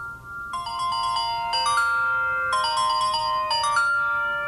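A phone rings with a continuous electronic chime, bright melodic tones repeating in steady one-second phrases without pause, fairly loud over a low background hum; no one speaks.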